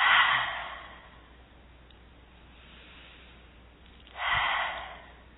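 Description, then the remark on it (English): Two audible breaths during a guided deep-breathing exercise, a slow airy exhale fading at the start, then quiet, then another deep rushing breath a few seconds later, with no talking. “Another one, deep breath in and out.”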